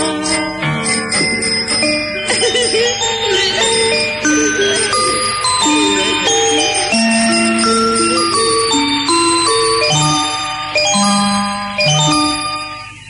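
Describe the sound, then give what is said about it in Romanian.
A scooter bell is rung over and over by its rider in bright, overlapping metallic dings, loud, filling the whole stretch without any pause or voices. “Eu vreau doar trotineta mea, vreau să alerg cu ea, să intru la tena pe ea, să fac cu soneria așa.”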